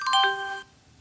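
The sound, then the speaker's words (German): A short descending chime of a few bright, bell-like electronic tones stepping down in pitch, lasting well under a second before fading out: the Windows XP shutdown sound. “Das war runterfahren XP.”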